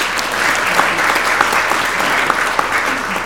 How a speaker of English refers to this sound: I think we can give him a big clap.